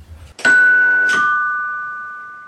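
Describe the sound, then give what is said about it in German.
A two-tone doorbell chime rings loud, a bright first note followed by a lower second one, both ringing out and slowly fading. “Ding Dong!”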